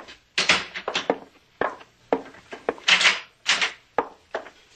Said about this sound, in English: Close the door.